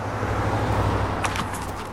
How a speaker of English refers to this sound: There's his car. He's back.